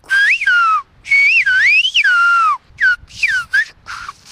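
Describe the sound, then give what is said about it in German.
A loud, piercing human whistle rises and falls in gliding, speech-like contours, delivered in several phrases separated by short pauses, clear with no talking: a whistled-language message, air pressed forcefully through teeth and tongue without using fingers, a loud attention whistle first, then the message. “Er presst die Luft kraftvoll durch Zähne und Zunge. Die Finger benutzt er dafür nicht. Erst kommt ein lauter Pfiff, um Aufmerksamkeit zu erregen.”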